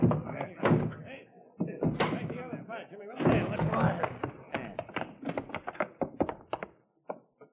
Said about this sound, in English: Push the door in. Okay.